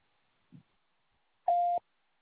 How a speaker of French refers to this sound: Merci de laisser un message après le signal sonore. Je vous rappellerai dès que possible.